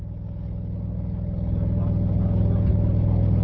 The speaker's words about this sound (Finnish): Tämä juna, jossa on 5 vaunua, kipuaa nyt moottorivoimalla ylös rinnettä.